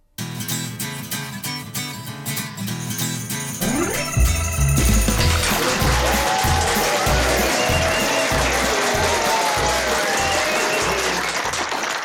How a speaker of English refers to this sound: Thank you, ladies and gentlemen, for that round of applause.